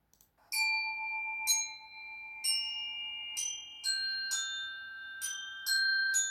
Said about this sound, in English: playing mini tubular bells, which are a percussion musical instrument. The boy holds a plastic hammer in each hand to play. His face is intensely turned towards the metal bars, which vibrate and emit a medium-high sound that goes like this.